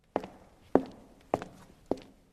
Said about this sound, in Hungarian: Vakon gépileg követtem vezetőmet még egy csomó szobán keresztül. Lépteink kísértetiesen kopogtak.